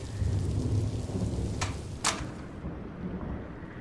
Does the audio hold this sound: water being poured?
no